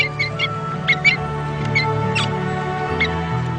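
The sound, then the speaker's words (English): Australian parrot chicks call in the nest with a series of thin, high-pitched squeaks and chirps, coming in irregular bursts over a low, steady hum. “Yet the mother parrot treats them all fairly. Every chick is given as much food as it needs.”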